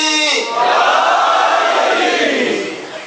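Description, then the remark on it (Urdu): A large crowd roars the religious slogan "Naara-e-Haidari" in unison, one loud sustained collective shout lasting about three seconds, with voices blending into a dense, swelling wall of sound. “اب دیکھیں پھر نعرے لگے، نعرہ حیدری.”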